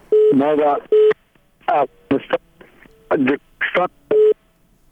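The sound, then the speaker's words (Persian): Repeated steady telephone line tones beep in short bursts over a broken connection as a listener calls in to a Radio Azadi programme, interleaved with choppy, garbled fragments of a voice, all fairly loud. “شنونده روی خط تلفن داریم. بفرمایید. بله. …. تماس شما برقرار شده.”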